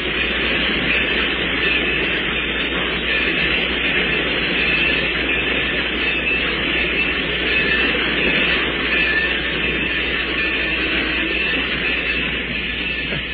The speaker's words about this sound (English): The train's stopping, Si. The train's stopping, and we're getting off here, too.